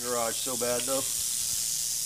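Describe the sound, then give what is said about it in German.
An agitated red diamond rattlesnake, coiled up and trying to get into a garage, gives a steady, dry buzzing rattle or hiss, continuous throughout, with a person briefly talking over it near the start. “Das ist unsere rote Diamantklapperschlange, eine der 2 häufigsten Arten hier. Sie ist ziemlich sauer, will unbedingt in diese Garage, aber daraus wird nichts.”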